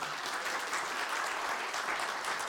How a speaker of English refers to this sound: Why don't we give Kathleen a warm applause?